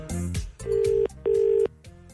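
An outgoing phone call's ringing tone: two clear, steady electronic pulses in a quick double-ring pattern, fairly loud, with no voices over them.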